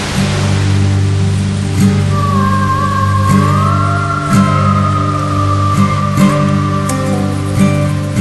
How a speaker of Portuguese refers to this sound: Quase 80 metros de queda d'água. A pedra que fica embaixo parece a imagem de Santa Bárbara? Os nativos dizem que sim. Por isso, batizaram a cachoeira com o nome da santa.